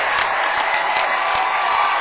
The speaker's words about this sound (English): Timeout taken by Whitwell. Listen to this Clay County crowd.